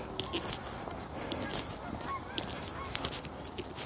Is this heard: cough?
no